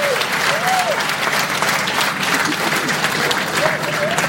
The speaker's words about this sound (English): But these two individuals deserve an extra round of applause, because I am telling you, we would not be here right now without them.